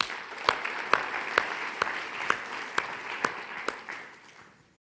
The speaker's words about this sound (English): So let's clap for ourselves once again.